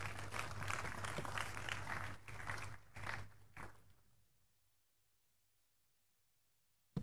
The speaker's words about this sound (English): Please take your seat and give the Lord a big clap.